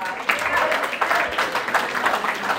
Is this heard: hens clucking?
no